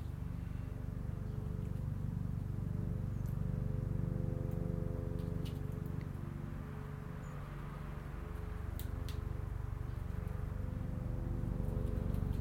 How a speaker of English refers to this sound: That sounds like a helicopter, doesn't it?